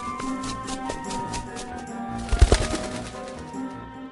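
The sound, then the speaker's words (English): A short burst of fluttering wing flaps, a white bird taking off, rises briefly over a soft musical background and then fades away. “The bird flew away.”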